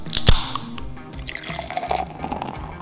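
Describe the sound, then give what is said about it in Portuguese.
Cold water being poured on a Friday night, a short run of splashy, trickling liquid sounds with a few sharp drips, heard on its own without any talking. “Nada como essa água geladinha na sexta noite.”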